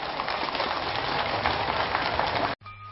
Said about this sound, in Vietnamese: Xin tất cả chúng ta hãy dành một tràng vỗ tay thật lớn.